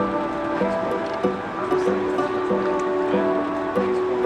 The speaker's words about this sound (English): The Jordan River.